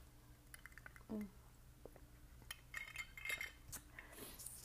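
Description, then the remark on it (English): Someone quietly sips coffee from a mug: a brief slurp, then soft ceramic clinks and small taps as the mug is handled, with no talking. “But yeah, anyways, let me sip my coffee.”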